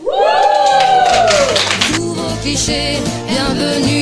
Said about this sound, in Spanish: Pues sí, un aplauso de verdad, porque esto es una declaración de infinidad de temas que habéis seleccionado.